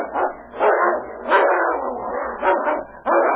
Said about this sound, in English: Suddenly, the growling stopped. One of the animals lay quietly in the snow.